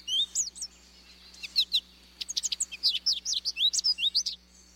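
An American goldfinch sings a lively run of high, twittering chirps and warbled notes, quick and varied, with a short pause before a denser burst of rapid tweets.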